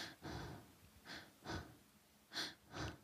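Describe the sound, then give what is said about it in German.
Quick, shallow breaths, about five soft puffs in three seconds with short pauses, each a light airy rush in and out, a demonstration of very shallow, quiet breathing. No talking. “Ich würde mich dann einfach ganz, ganz, auch ganz flach atmen nur, nicht zu doll, nicht, dass ich noch irgendwie.”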